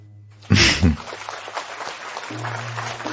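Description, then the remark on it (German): An audience applauds, a loud sudden burst giving way to a steady, dense patter of many hands clapping that continues to the end over a low steady hum. “Ist der Applaus schon durch?”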